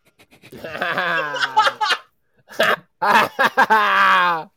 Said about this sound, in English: Oh my God, these hiccups, boys.